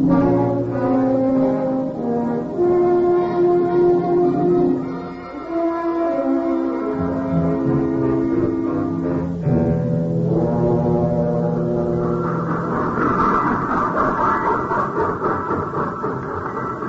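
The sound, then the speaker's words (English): A locomotive's whistle blows loud in long, sustained chordal tones, holding for many seconds and shifting pitch partway through, with a faint rumble of the train underneath. “First train I ever saw with cobwebs on the locomotive.”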